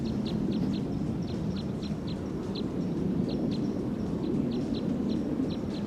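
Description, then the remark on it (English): Wild crossbill calls recorded from about 40 meters away: short, sharp chip notes repeated in quick irregular bursts, heard over a steady low rumbling background noise with no talking. “Recording the wild bird from about 40 meters away on filter 3.”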